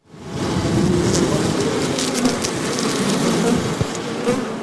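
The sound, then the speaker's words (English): A steady, dense hum of over 20,000 honeybees buzzing around two small wooden hives on NPR's green roof, covered with soil and plants, in Washington, D.C., constant and fairly loud throughout, with faint wind and outdoor background noise underneath. “Our so-called green roof, covered with soil and plants, as of yesterday, houses two small wooden hives with over 20,000 bees.”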